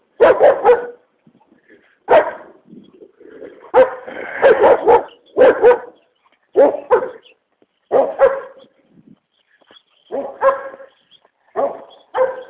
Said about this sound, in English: Multiple dogs. What a surprise.